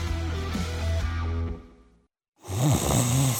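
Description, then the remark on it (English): A person snores loudly: a long, rumbling snore fades out, then after a brief silence a second, raspier snore follows with a wavering, fluttering pitch. “Sound familiar? At Mattress Firm, we understand there are many problems, like snoring, aches and pains, hot sleep, or even an old saggy mattress that can keep you up at night.”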